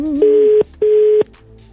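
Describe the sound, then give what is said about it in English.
A telephone ringback tone sounds over a phone line on a call placed from Nigeria: two short, steady electronic beeps in quick succession, the classic double ring, clear and fairly loud with nobody speaking. “All right, it's ringing right now.”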